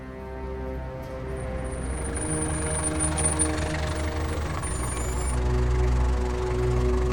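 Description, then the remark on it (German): A taxi's engine hums steadily, a low droning rumble with a faint high whine on top, holding at an even level throughout with no voices, as the taxi drives someone home to Baker Street. “Ein Taxi hatte mich nach meiner Entlassung nach Hause gefahren.”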